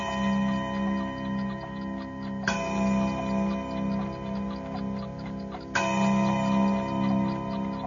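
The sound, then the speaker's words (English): A clock chimes with a sustained, resonant ringing tone, struck sharply twice, each strike blooming into long humming overtones over a faint, steady ticking. No one speaks. “Yes, listen to it chime.”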